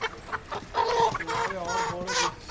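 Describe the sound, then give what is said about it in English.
Several chickens cluck and squawk in a busy cluster at one of Kolkata's oldest meat markets, with overlapping harmonic calls rising and falling over a low background murmur. “I've come to one of Kolkata's oldest meat markets. Here you can pick up your chicken, your mutton or your goat.”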